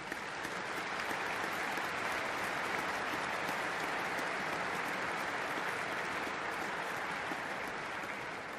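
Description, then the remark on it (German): A large audience at a company's annual shareholder meeting applauds steadily, a dense, even wash of clapping that holds at a constant loud level for several seconds, with no voices heard over it. “Ich glaube, einen großen Applaus.”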